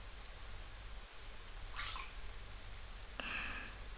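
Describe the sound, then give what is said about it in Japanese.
Steady rain falls throughout, a soft continuous hiss over a low rumble, with a couple of brighter splashing bursts partway through. No one speaks. “このまま温まるまで、おんさんも雨の音を聞いてな。”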